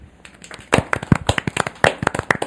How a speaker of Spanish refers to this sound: Pero antes, démosle un gran aplauso a la radio.